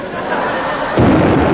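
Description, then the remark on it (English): A ship's cannon fires: after a steady background hiss, a single loud, deep boom bursts in and leaves a heavy, rumbling roar that carries on to the end. “He's opened fire.”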